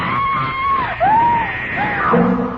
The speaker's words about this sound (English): I screamed and rolled over on the bed just as the knife flashed down.